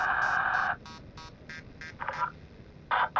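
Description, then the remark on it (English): Loud electronic beeping interference with a buzzy, harmonic tone: a long sustained beep, then a series of short rapid pulses, and two more strong beeps near the end, unaccompanied by voices. “Why are we still getting interference? The beeping?”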